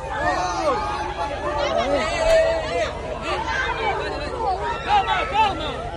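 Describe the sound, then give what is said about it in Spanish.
A dense, excited crowd holding phones mobs Lamine Yamal as he leaves a venue in Puerto Banús, Marbella: many voices overlap in loud, continuous chatter and shouts, with rising calls breaking through the steady babble throughout. “Rodeado de móviles, de gente, pero montones de gente.”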